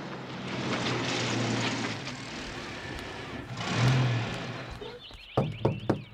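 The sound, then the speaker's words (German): Heavy engines of several trucks delivering animal feed rumble as they roll into a zoo in the morning, swelling briefly before settling down, followed by a few sharp bursts like air brakes hissing as the trucks stop in front of the zoo office. “da rollen einige Lastwagen in den Zoo und halten vor Herrn Tierliebs Büro”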